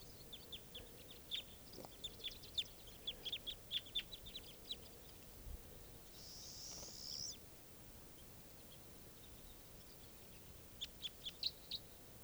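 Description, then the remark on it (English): A very large flock of wild crossbills, mostly type 2 birds, calls from the trees above where nets used to be set up: sharp high chip notes in quick clusters, a brief buzzy note midway, then a fresh burst of chips near the end over a soft background hush. “a very large flock of crossbills just arrived, and they're sitting in the trees here above where I used to have nets set up.”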